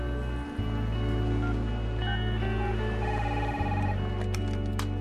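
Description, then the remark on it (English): A phone rings on the line as a call is dialed on a mobile phone on a busy street near the skyscraper that houses Runway Magazine, with steady, loud electronic tones broken by short pauses and a few faint higher chirps near the end. Nobody speaks. “She takes a mobile phone from her bag and begins to dial.”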